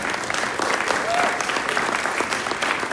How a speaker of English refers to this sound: And let's give these guys a little whoop and a cheer.